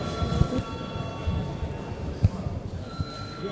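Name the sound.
parliament voting bell ringing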